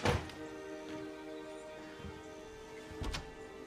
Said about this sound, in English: She unlocks the door to the little cabin and steps inside. Shrugging off her pack, she lets the door close behind her.